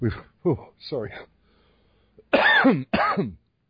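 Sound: chesty cough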